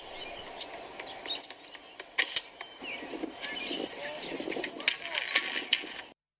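bird, birds singing

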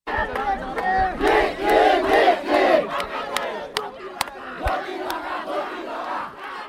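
crowd, protest crowd chanting slogans

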